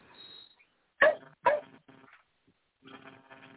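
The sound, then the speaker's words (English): A dog lets out two sharp, loud barks in quick succession, followed by softer, muffled yips and a quiet trailing sound. “Shut up, dog.”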